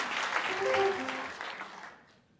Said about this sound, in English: Oh, the bass player knocked over all his coffee. Come on, you got to applaud when someone does something like that.